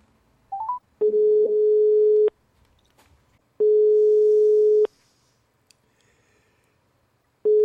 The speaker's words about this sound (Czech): Jak slyšíte, telefon vyzvání. Necháme to zvonit ještě chvilku. A nic. A nic.